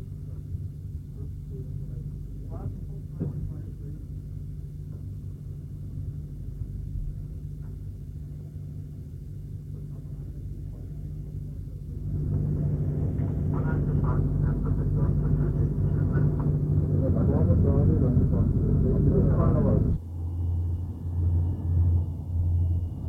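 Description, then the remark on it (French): A steady low engine rumble of a luxury airplane fitted by the Genetou works for only 25 passengers swells midway into a louder, broad roar that holds for several seconds before dropping back to a humming drone as the plane departs. “L'avion va partir.”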